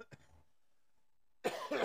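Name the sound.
cough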